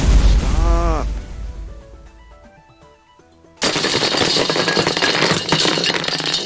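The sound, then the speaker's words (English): A video game fire cannon launched from a block fires with a rising whoosh, followed by a few quick tonal blips, then a sudden loud, dense stretch of rapid rattling impacts like shots pounding against blocks. “launched fire cannon from block”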